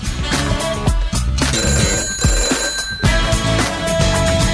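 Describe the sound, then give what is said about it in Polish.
A telephone rings loudly over a dense, rhythmic music bed, its bright ringing tones repeating across a few seconds with no one speaking, as a radio station takes the next caller's call. “I odbieramy kolejny telefon, nasze radio.”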